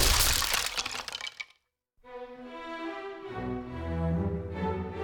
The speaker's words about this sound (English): he crashed through the ceiling, blowing a hole in the thatching.